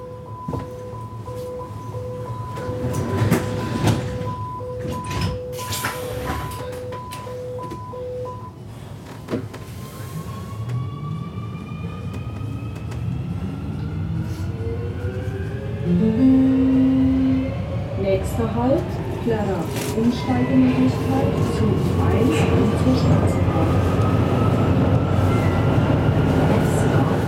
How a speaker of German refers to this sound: Wir sind heute zusammen unterwegs in einem Zug ohne Fahrer. Und zwar in Nürnberg. Dort fahren U-Bahn-Züge schon seit 2008 vollautomatisch.